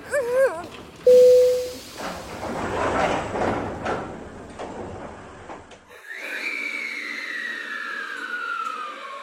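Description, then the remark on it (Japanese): The right-side doors of a departing train slide shut at Jonokuchi-higashi station: a warbling chime and a short steady buzzer, then a few seconds of rushing, rattling door movement, followed by the rising electric whine of the train pulling away. “閉まるドアにご注意ください。”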